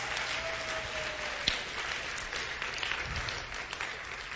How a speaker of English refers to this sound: Look at the worship team. Clap hand to the worship team. Excellent.